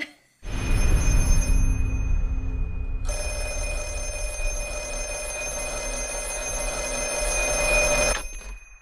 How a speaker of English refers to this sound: I think it's time to, you know, to pick up that ringing phone in the background